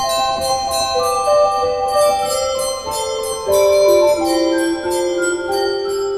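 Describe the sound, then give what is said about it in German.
A bright organ glockenspiel stop plays a lively run of ringing bell-like notes over sustained organ tones, fairly loud, with no talking. “Und es gibt ein Glockenspiel.”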